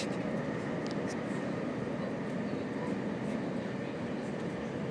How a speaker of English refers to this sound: What you can hear, however, is a lot of chatter coming from the other end of the carriage. They obviously haven't read the rules that you don't talk on trains in the southeast of England.